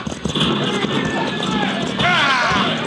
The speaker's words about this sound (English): Bring those horses to a halt.